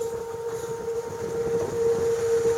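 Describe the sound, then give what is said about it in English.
A steady, high-pitched hum from a racing catamaran's hydrofoil sings continuously over rushing wind and water noise as the boat sails on Lake Garda at about 14 knots, holding one pitch throughout and growing slightly louder toward the end. “Hear the foil really humming.”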